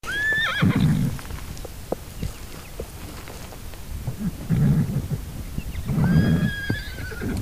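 Six wild horses whinny loudly twice, high wavering neighs near the start and again near the end, while hooves clop and shuffle over uneven ground as they move up a hill in the mountainous Virginia range, outdoors.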